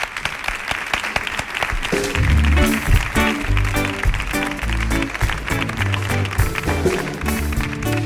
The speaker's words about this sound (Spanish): Fuerte el aplauso para ellos, por favor.